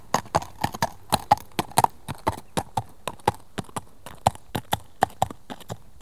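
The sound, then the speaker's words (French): Horse hooves clip-clop steadily at a walk, a sharp, even, four-beat rhythm of distinct hoof strikes on a hard surface, continuing throughout with no voices. “Ça, c'est un cheval qui hennit. Le voilà, il marche au pas.”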